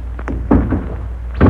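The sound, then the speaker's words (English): A car door shuts with a solid, muffled thud as someone gets in, followed by a second heavy thump about a second later, over a steady low rumble like an idling engine. No one speaks. “Get in, man.”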